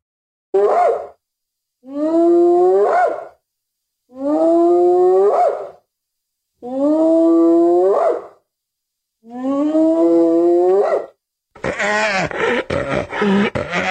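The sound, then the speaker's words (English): Hyenas call out in five loud, drawn-out rising whoops with brief pauses between them, followed by a harsh, chaotic burst of overlapping cackling at the end. No one speaks. “That was just a bunch of cackling hyenas.”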